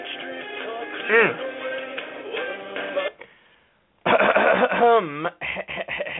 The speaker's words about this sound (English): That would be me clearing my throat. No, I'm okay. I haven't coughed all day, and then I randomly cough now.